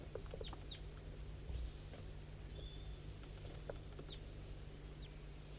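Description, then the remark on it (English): A wild bird gives scattered short, high chirps and clucks, fairly faint, with irregular gaps between them, over a steady low droning hum; recorded at 8:15 a.m. on a foggy morning, the bird down the hollow to the west. “I'm pointing towards a wild bird.”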